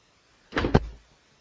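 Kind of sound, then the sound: household object, door closing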